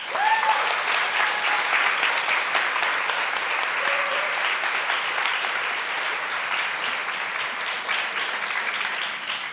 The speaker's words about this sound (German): Ja, also herzlich willkommen und einen Applaus für unser Panel.